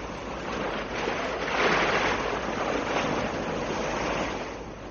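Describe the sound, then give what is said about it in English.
Ocean surf rushes in a steady wash of noise, swelling louder around the middle before easing off, with a faint hint of wind mixed in and no voices. “We're caught in a current. We're going out to sea again.”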